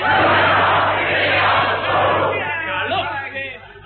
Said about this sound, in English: Whenever I say hello, children, I want you to shout out, hello, widow, like to be beside the seaside. All right, let's try it again. Hello, children!